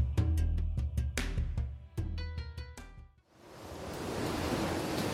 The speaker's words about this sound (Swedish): Oj vad vinden blåser. Det är nog storm. Minst.